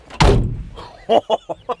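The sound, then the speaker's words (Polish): The door of a 19-year-old car without remote central locking shuts with one heavy, low thud that rumbles briefly, followed by four short, sharp clunks in quick succession. No one speaks. “Lubię ten dźwięk.”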